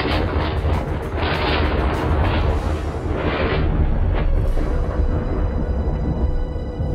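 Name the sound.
thunderstorm thunder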